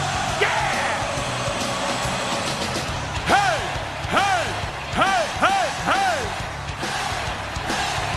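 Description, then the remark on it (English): A man screams in celebration of a Rangers goal in a playoff hockey game against the Devils, letting out several loud rising-and-falling whoops in quick succession over a steady background hiss, then falls quiet. “I had to let out a scream.”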